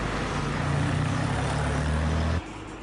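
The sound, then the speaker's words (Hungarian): Steady, dense rumble of heavy road traffic, a snaking queue of cars passing through the town of Sásd, with low engine hum from idling and slowly moving vehicles, continuous for a few seconds before it suddenly drops away to a quieter hiss. “Ebből naponta több ezret lehet mondani, hogy áthalad ezen a településen, teljesen felgyűrve az utak, egymást érik az autók.”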